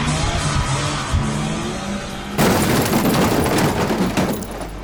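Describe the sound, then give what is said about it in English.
A loud car engine roars for a couple of seconds during a race, then a sudden violent crash erupts into a sustained wash of crunching metal and shattering, scattering debris, loud; the car is completely destroyed. “My wife called the cops, I got a little banged up. My car is completely destroyed.”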